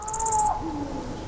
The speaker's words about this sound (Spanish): Hay unos búhos, un cárabo.